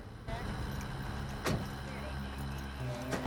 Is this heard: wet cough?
no